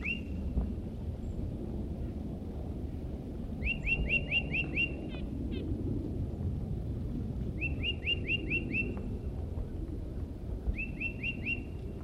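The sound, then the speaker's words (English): A tufted titmouse sings short bursts of rapid, repeated high whistled notes, three phrases spaced a few seconds apart, over a steady low rumble of wind or outdoor noise. “That was the vocalizations of a tufted titmouse who's nearby.”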